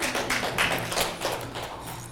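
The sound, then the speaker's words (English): A crowd claps steadily after a preacher invites them to clap, many hands overlapping into a dense, fairly loud patter of sharp slaps with no voices over it. “listen, you can clap.”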